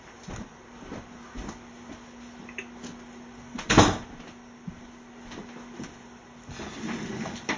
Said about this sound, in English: Let's close the door here.